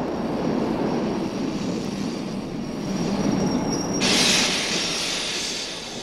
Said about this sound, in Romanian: Alo, nea mecanicule, oprește, frate, metrou, că trebuie să cobor urgent!